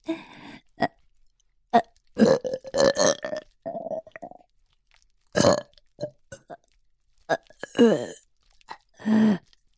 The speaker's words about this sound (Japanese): お口を開けて。出た。どう？ママのミルクゲップ、いい匂い。